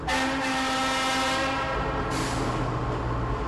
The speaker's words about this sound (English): I'm standing at the entrance to the western section of the Inland Feeder Tunnel. I'm about to get on a train that's going to take me 2.5 miles underneath the ground.